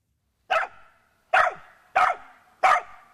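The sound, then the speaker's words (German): A rescue dog barks four times in a steady rhythm while training with its trainer to search for buried people in a disaster area, each bark loud and sharp, with brief silent pauses between them and no talking. “Ja, und dieses Bellen kann Leben retten. Ein Rettungshund übt hier mit seiner Trainerin für den Fall, dass er in einem Katastrophengebiet nach Verschütteten suchen muss.”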